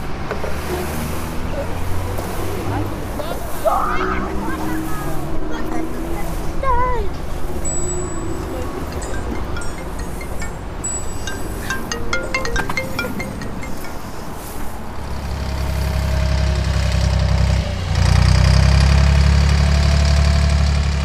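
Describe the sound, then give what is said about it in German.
Busy city street ambience in Stuttgart with a steady idling engine rumbling, scattered clinks and voices, and a heavier low engine roar swelling in the final seconds. “Also Verkehr gibt es ja viel in Stuttgart und Lebewesen gehört ja einfach zur Stadt dazu”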